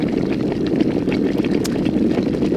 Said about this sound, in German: Der Wasserkocher, der hier eben, der steht bei uns im Büro, füllen wir einmal auf am Morgen und dann kochen wir das Wasser x-mal wieder auf, einfach bis er leer ist.